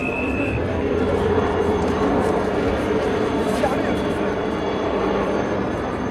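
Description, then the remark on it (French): A loud, steady roar of two helicopters circling over a velodrome as the leading riders of a cycling race enter it, a dense continuous rumble with no breaks, while indistinct voices murmur beneath it. “Le suspense touche à son paroxysme quand les hommes de tête pénètrent dans le vélodrome sous un vacarme de deux hélicoptères qui tournaient autour de l'enceinte.”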